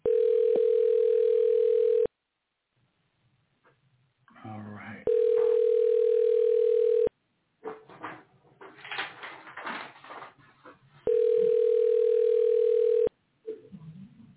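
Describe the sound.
A steady telephone ringback tone from an outgoing call to Texas sounds three times, each burst about two seconds long, with muffled voices and background noise filling the gaps between rings.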